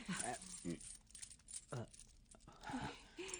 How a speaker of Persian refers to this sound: باشد باشد، پس کمی درنگ کن تا سکه ها را لمس کنم. درهم و دینار با هم تفاوت بسیار دارند.